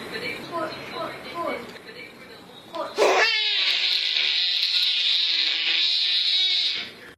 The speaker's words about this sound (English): Finally today, little baby, big scream.